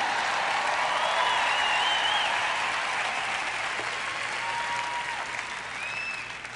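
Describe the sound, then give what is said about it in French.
An audience applauds a preacher during a sermon, steadily for several seconds, a dense, even wash of clapping that fades slightly toward the end, with a few faint whistles or voices riding over it. “Je prêche bien, vous feriez donc aussi bien de m'applaudir.”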